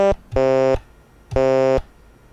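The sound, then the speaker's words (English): Buzzy electronic tones from a Simon memory game in learn mode as keys are pressed to hear their sounds: a clipped blip, then two loud half-second beeps at the same low, reedy pitch, spaced about a second apart, with no talking. “Press dot 1, dot 3, dot 4, and dot 6 to hear their sounds.”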